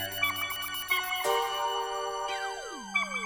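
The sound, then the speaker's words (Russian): An electronic phone ringtone plays alone, a bright synthetic melody of sustained tones that shifts pitch and slides downward near the end, clear with no voices. “И там звонит, кто-то звонит.”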